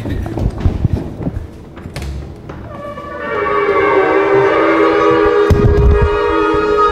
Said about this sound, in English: So shofars were the horns that apparently knocked down the wall, so we wanted to measure how loud they could be.